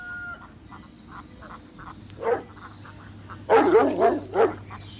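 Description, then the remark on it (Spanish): A dog barks, one sharp bark followed after a pause by a quick run of three or four loud barks, over a steady backdrop of faint, rhythmic croaking. “Ese perro, cada día está más loco.”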